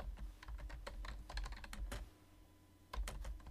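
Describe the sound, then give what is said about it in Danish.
Rapid keyboard typing, a quick run of crisp key clicks for about two seconds, a brief pause, then a few more taps, as course content levels (courses, modules, lessons) are written down; no one speaks. “Det kan vi lige skrive op her.”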